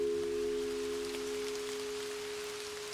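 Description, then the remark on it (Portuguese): Heavy rain pours down in a steady, dense hiss for the whole stretch, with a low, constant humming drone underneath and no voices; a heavy downpour at sunset in the mountains, falling on Dutch troops marching toward Palmares. “O sol se escondia nas montanhas quando as tropas holandesas foram atingidas por uma forte chuva.”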